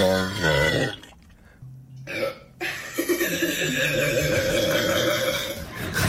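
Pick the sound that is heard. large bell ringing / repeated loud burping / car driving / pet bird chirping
repeated loud burping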